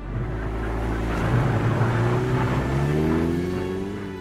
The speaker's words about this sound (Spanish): Y en el fondo del patio está pasando un coche, bueno, una limusina.